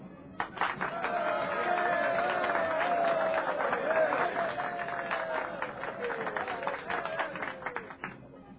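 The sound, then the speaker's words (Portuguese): A large crowd, the people of Pompeii at a spectacle, applauds steadily as Plínio Severus is hailed as one of the Empire's victors, dense clapping blending with a swell of cheering voices, loud and sustained for several seconds before thinning slightly toward the end. “Uma hora depois, em pleno espetáculo, Plínio Severus é aplaudido pela população de Pompeia como um dos vitoriosos do Império.”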